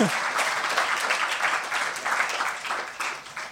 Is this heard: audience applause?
yes